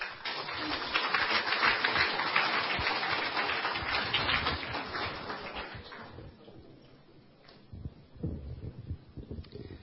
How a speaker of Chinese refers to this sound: 让我们再一次鼓掌，谢谢几位姐妹的见证。